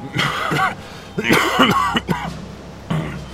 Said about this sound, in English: He coughed up blood a dozen times a day. He wouldn't last another 6 months, no matter what.